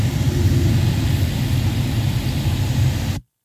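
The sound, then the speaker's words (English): A car engine hums steadily at a constant pitch just after shifting gears, a loud, low rumble with broad road-like noise over it, running continuously for about three seconds before stopping abruptly. No one speaks. “Just shifted gears.”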